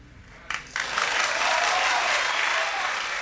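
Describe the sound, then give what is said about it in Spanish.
A group of people claps together after a musician's variations are played, starting with a few scattered claps and quickly swelling into steady, dense applause that holds at an even loudness without any voices. The applause is in summer in Sayago, with a window open. “Tengo la ventana abierta mientras aplaudimos, porque es verano, hemos decidido que es verano con un sol amarillo en Sayago.”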